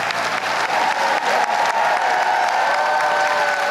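A large theatre audience at the Globe applauds steadily, a dense, even wash of clapping with some cheering mixed in, sustained at a strong level throughout with no speech.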